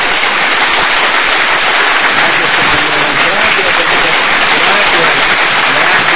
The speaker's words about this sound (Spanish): pues a veces se merece un aplauso, ¿no?